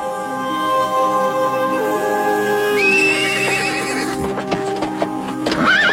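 A horse neighs loudly, its whinny rising and wavering, while scattered hoof clops and shuffling come in toward the end, as a man and two helpers fetch their horses. No one speaks.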